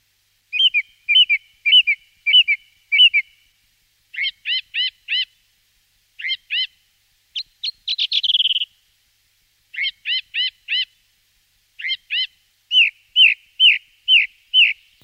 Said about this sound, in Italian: Il tordo bottaccio emette un verso secco e metallico unico nel suo genere. Ecco il suo melodioso canto d'amore.